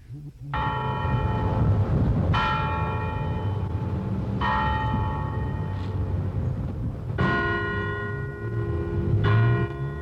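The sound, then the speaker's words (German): Church bells, rung each evening in remembrance of a family, peal in an overlapping sequence of strikes, each leaving a long shimmering ring, with a low rumbling hum underneath throughout; no one speaks. “dass sie in der Kirche einen, wie sagt man da, Legat oder jedenfalls eine Summe zur Verfügung gestellt haben und damit erreichen wollten, dass jeden Abend in ihrem Andenken diese Glocken läuteten.”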